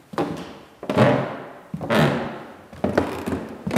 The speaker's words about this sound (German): Mit jedem Schritt über den knarzenden alten Holzboden in dem kleinen Museum können Besucherinnen und Besucher etwas mehr von Hermann Hesse entdecken.